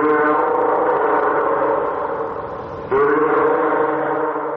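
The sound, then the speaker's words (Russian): A fur seal calls loudly: two long, harsh, throaty bleating cries. The first lasts about three seconds and the second follows immediately. No speech is heard. “Морской котик.”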